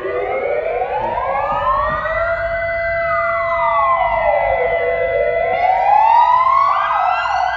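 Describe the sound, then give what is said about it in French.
A loud memorial siren sounding at the exact hour of Atatürk's death, with everyone stopping in the streets, wails continuously, its pitch slowly rising and falling in long sweeping cycles with a rich, layered tone, sounding alone with no voices. “donc on avait vraiment cette sirène qui retentissait, tout le monde s'arrêtait dans les rues.”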